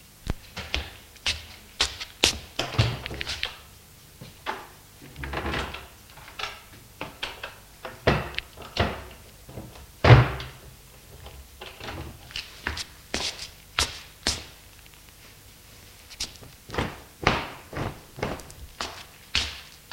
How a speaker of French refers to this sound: va ouvrir l'armoire pour sortir des draps et faire le lit.